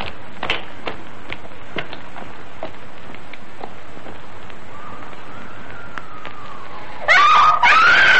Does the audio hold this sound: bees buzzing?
no